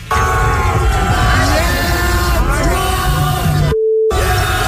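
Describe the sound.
A large concert crowd boos loudly and continuously, many voices sliding up and down together in a dense roar, cut near the end by a short steady beep.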